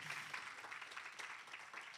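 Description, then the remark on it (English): An audience applauds guests steadily for a couple of seconds, a dense, even patter of many hands clapping at once, fairly soft. “Give our guests a hand clap.”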